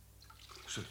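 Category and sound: household object, running water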